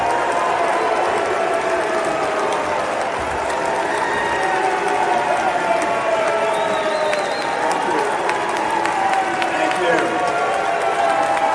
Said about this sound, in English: This is Mitt Romney getting booed at the convention